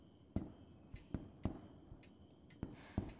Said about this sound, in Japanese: 近くで。綺麗ですよ。空一面というほどではないですけれど、ご存知でしょう？みんな出かけておりますよ。花火が響く日はいつも。